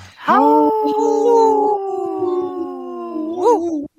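wolf howling

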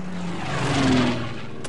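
planes flying overhead

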